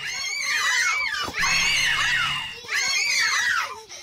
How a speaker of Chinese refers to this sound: 岸边嘅村民好惊咁响度尖叫。